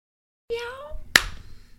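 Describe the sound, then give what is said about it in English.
A single sharp hand clap rings out right after a brief, pitched vocal exclamation, leaving a faint low rumble trailing behind it. “I was clapping.”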